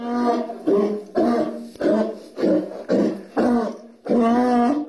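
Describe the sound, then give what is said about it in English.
Two donkeys braying loudly at writer Bonnie Jo Campbell's mother's home in Comstock, a rapid run of about seven harsh, rhythmic hee-haw blasts that seesaw between high and low pitches, with no talking. “The noise comes from the two donkeys who live at Campbell's mom's home in Comstock.”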